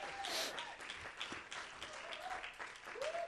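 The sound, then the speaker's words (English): An audience applauds the youth group and its leader with dense, steady clapping for a few seconds, joined by a few rising whoops and cheering voices over the crackle of hands. “Let's give them another hand of applause.”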